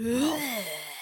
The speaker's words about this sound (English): Do some fire breathing.